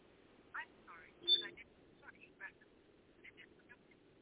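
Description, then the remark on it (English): A phone call connecting through a line as the caller dials back in on another phone during a live broadcast, with thin, garbled voice fragments and a short electronic beep over a steady low hum, fairly faint throughout. “So let me call back in on this other phone before it tries to end the broadcast.”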